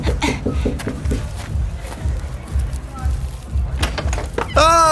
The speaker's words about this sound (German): Aber ich klopf mal an.